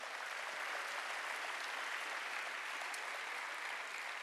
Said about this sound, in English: So can we give them a hand clap one more time?